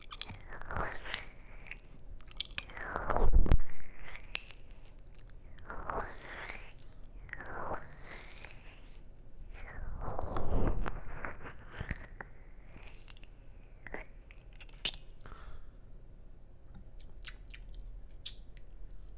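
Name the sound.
chewing and biting food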